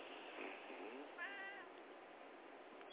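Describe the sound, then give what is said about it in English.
A cat meows once or twice, a drawn-out, wavering cry that rises and dips, not loud, over a faint background hiss with no one talking. “I love your kitty. It's okay. You know, if she speaks up, we will listen to what she has to say.”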